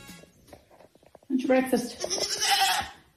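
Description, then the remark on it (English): A goat bleats loudly in one long, wavering cry lasting a couple of seconds, after a brief quiet stretch with faint vocal sounds at the start. “Sent us in, said the sound of her goat.”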